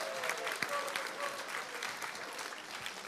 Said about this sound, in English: Let's begin by giving a proper round of applause to our sponsors, Bailey Gifford, without whom none of this would be possible.